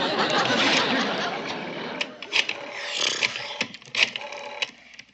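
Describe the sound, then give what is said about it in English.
A rotary phone dial whirs and ratchets, a steady mechanical rasp followed by several sharp clicks as the dial spins back, moderately loud with no talking. “Oh, I only wish we had a push-button phone.”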